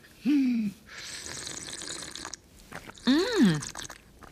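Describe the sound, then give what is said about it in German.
Hot water pours steadily for about a second and a half onto two spoonfuls of sugar for a drink, a hissing splash, framed by two short drawn-out vocal exclamations before and after. “Und heißes Wasser.”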